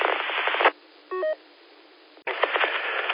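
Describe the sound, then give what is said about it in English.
A short run of telephone keypad tones, quick electronic beeps pressed in succession, heard alone between stretches of band-limited phone-line noise and hiss, as a call is dialed to Spectrum about getting a new modem. “so I can't get online, so I gotta, my wife, she's calling, Spectrum, see if we can get a new modem.”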